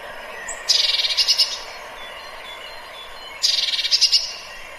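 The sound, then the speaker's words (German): A bird calls twice, each call a rapid burst of high, buzzy-chattering notes lasting about a second, separated by a pause of roughly two seconds over faint background hiss. “So, jetzt kommt mal der Ruf.”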